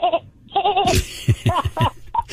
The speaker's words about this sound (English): but that's not the worst that goats do. They yell.